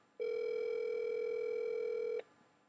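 A single steady ringing tone from an outgoing phone call, a clear electronic buzz lasting about two seconds, starting and stopping abruptly, with no one talking.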